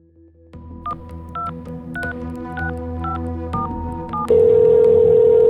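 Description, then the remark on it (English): A telephone keypad dials out for a call from North Carolina, 400 miles away, in a quick, steady series of about nine short beeps over a low background hum, then a loud, continuous line tone cuts in and holds. “Right as the realization was setting in, a phone call came in from 400 miles away in North Carolina.”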